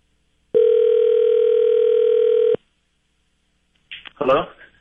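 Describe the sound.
A single steady telephone ringing tone from an outgoing phone call sounds for about two seconds, clear, then cuts off; after a short pause a voice briefly speaks, as if the call was answered.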